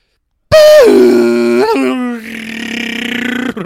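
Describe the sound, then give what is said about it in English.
A person loudly imitates a dial-up modem with their voice: a sustained high tone that slides down, a brief warble, then a long, harsh buzzing screech, with no other talking. “Speaking of nostalgia, here's my attempt at a modem sound.”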